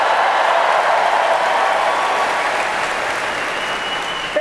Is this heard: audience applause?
yes